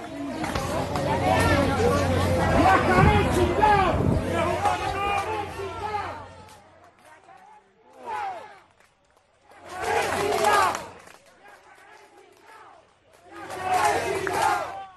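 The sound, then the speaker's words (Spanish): A large crowd of marchers shouts together in a loud, dense roar for several seconds at the central church of San Antonio de los Baños, Cuba, then breaks into separate bursts of collective yelling with brief quieter gaps between them. “Ese es el sonido, esto es lo que se está viviendo, ¿qué están gritando?”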